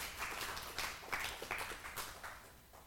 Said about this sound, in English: So with that said, thank you guys. Let's give them another round of applause.